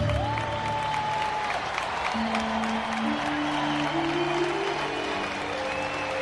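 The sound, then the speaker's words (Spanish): A crowd in the Plaza de los Luceros applauds after a song, a dense, steady wash of clapping that holds for the whole stretch, with a few sustained musical tones ringing beneath it. “Dice la letra de esta canción y rompen aplausos el público en la Plaza de los Luceros.”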